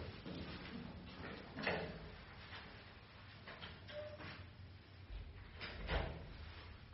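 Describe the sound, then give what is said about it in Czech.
A door is eased shut, with a couple of soft, muffled thumps and a brief scrape against a low background rumble. No one speaks. “tak běžte si tam a potichu, chlapci. Zavřete si dveře.”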